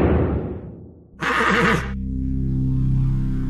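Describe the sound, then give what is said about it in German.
A horse lets out a single loud whinny with a wavering, breathy pitch, framed by low rumbling tones before and after, with no one speaking. “Mehr als nur eine Pferdestärke, unglaubliche Höchstgeschwindigkeit, nur 4 Scheffel Heu auf 100 Kilometer.”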